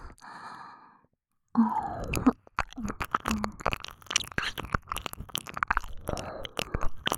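A soft breathy exhale, then a brief pause, then a run of wet ear-licking mouth sounds: rapid smacks, slurps and tongue clicks in an uneven rhythm, fairly loud and intimate.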